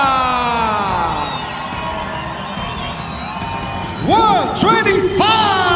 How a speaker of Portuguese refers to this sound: E com uma calorosa salva de palmas, recebam o nosso campeão peso mosca, Alexandre The Cannibal Pantoja.